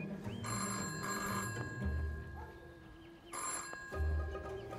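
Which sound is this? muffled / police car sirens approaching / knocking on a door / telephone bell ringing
telephone bell ringing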